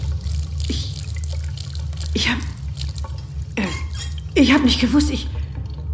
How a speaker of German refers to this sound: Sie drehte das Wasser an, hielt den Finger drunter und zuckte zurück. Das Wasser war heiß.